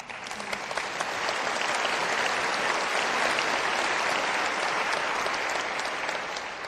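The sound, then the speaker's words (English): A crowd applauds steadily and loudly, a dense wash of many hands clapping that holds at an even level from start to finish with no voices rising above it. “That applause was not for me, but for the Lord.”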